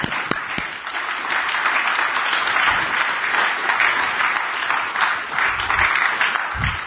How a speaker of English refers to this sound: So although Dan couldn't be with us today because of an illness, I do think he might be listening. And if he's not, he won't hear the round of applause given to him in gratitude.